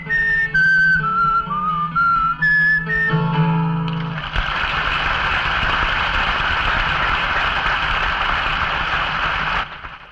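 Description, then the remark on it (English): A whistled imitation of a bird call: a quick series of bright, chirping notes that step up and down for about four seconds, followed by a long, steady rushing noise. “and the dog went ruff, and the cat went meow, and the bird went.”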